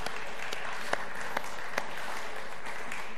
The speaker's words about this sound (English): It's amazing that you're here tonight. We're really pleased. So how many of you have come along tonight, have been away? Let's give them a clap, because I think that's fantastic.